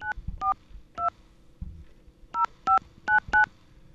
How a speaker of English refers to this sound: We are able to somehow call a magical number and access this. So I'm going to call that magical number by dialing these little tones here.